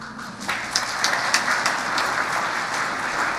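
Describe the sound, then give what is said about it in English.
A crowd applauds with steady, dense clapping that holds an even loudness for the whole stretch, a few sharper claps standing out early on. No one speaks. “No applause for Bishop.”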